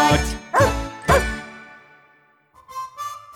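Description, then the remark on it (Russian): A pet dog named Altai barks three times in quick, evenly spaced succession, loud, with the sound ringing off afterward before a faint tinkling tone comes in. No one speaks. “и мой пес Алтай рады встрече.”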